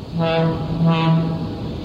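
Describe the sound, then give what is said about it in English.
The horn of the 8:30 Limited train sounds a sustained, fairly loud low blast that swells twice in quick succession, with a hollow, reedy tone and faint background rumble. “Any seats on this train?”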